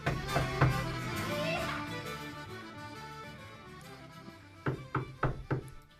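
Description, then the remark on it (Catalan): A quick series of four or five solid, fairly loud knocks on the wooden door of a large, handsome house at night, coming near the end after a stretch of soft background sound. “Déu va pensar que els rics que vivien a la casa gran no els resultaria massa molèstia que passés una nit a casa seva, i per això va trucar a la seva porta.”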